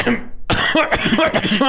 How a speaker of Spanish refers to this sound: Fred creyó oír a un hombre carraspear su garganta mientras él y Dolly estaban en la cama